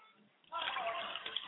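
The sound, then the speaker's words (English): After a brief hush, water is poured out of a glass as a libation to the West in a steady, splashing stream for about a second, a bright trickling rush that fills the rest of the moment. “pour libations to the West, and I say Ashe.”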